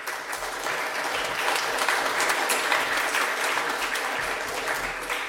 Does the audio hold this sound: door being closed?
no